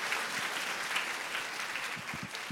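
A steady burst of audience applause, many hands clapping in a dense, continuous patter that stays fairly even in loudness throughout, with a few faint voices mixed in.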